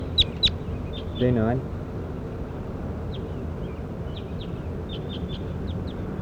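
A bird being recorded calls with two sharp, high chirps, then a short, harsh, squawking note, followed by a scattered series of faint chirps over a steady background hiss.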